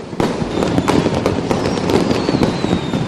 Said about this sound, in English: Here, last night in Beijing, fireworks for ringing in the Year of the Dragon.